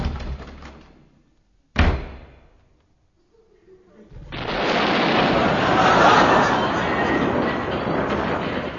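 In The Goon Show, a door shuts with a single sharp slam as someone enters their own door after some rustling movement, then quiet, before a loud, steady wash of broad noise swells up and carries on to the end.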